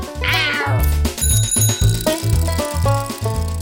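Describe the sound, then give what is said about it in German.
A single drawn-out tomcat meow rises and falls near the start, clear, over a steady, bass-heavy musical accompaniment that continues to the end. “Was ist es denn, Kater?”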